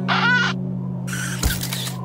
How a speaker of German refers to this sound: Aber die mochten das Geräusch seiner Kamera nicht und suchten schnell das Weite.